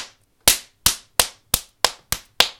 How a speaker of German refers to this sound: Sie klatscht mit den Flügeln aufeinander. Das ist ein mechanisches Balzgeräusch.